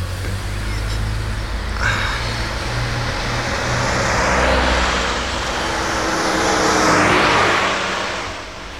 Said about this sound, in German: Da kommt ein Auto aus der Ausfahrt. Ja, Vorsicht. Zurück.